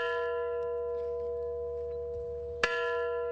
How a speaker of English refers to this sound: And it was 25 years ago today that an explosion at Chernobyl led to the worst nuclear disaster in history. At a memorial service held this morning in Ukraine, a bell tolled 25 times for the years that have passed.